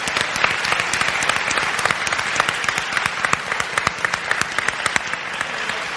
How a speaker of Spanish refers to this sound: Es más, voy a rogar que por favor aplauda bien fuerte todo aquel que esté de acuerdo conmigo en pedir para allá, de momento, una miniserie protagonizada por Robotnik.